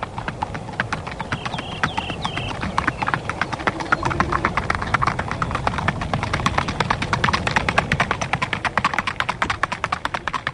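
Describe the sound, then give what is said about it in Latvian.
Rapid, evenly spaced hoofbeats of an Icelandic horse moving in a smooth four-beat tölt, the gait unique to the breed, steady for the whole stretch, over a soft outdoor rumble with no talking. “Šī skaņa ir Islandes īpašais solis, gaita, kura raksturīga tikai šai šķirnei un kas padarīja šo zirgu slavenus visā pasaulē.”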